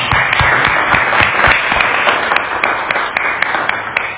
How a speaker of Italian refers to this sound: Mi fermo qua, il mio ringraziamento è dovuto, però è anche personale, voglio dire, quindi ti lascerei la parola e dopo ci sarà un piccolo momento con una foto dedicata, quindi a te la parola con un applauso.